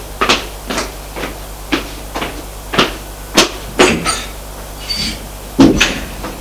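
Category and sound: household object, noise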